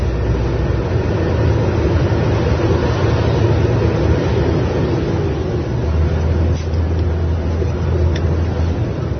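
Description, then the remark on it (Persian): Steady low rumble of idling engines and road traffic, dense and continuous, from a kilometres-long traffic jam full of trucks stretching as far as the eye can see, with a deep motor drone swelling in the second half and no voices. “این محرمه، تا جایی که چشم کار میکنه گرفتاری برای راننده های کامیون بدبخت.”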